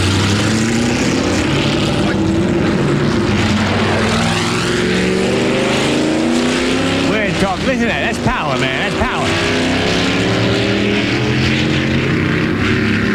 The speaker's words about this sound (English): We had cars like this. That's glass packs. You hear that? Listen to that.